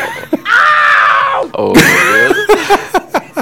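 A scream sound effect: a loud, sustained scream lasting about a second, followed by a second shrill cry, then several short, sharp yelps in quick succession, all intense with no other talk.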